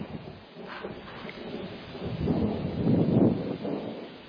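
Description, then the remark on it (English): A deep, rolling rumble of thunder from a storm swells in the low range and peaks near the end, heard over a steady wash of rain with no one speaking. “There's the thunder.”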